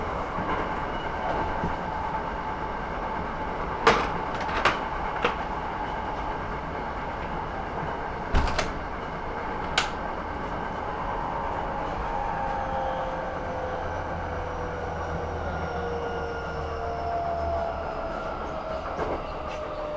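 A steady interior rumble of a moving train after its stop at Osaka-Umeda Station, with a few sharp rail clicks and joint knocks early on and faint rising-falling tones, continuous and fairly loud throughout with no talking.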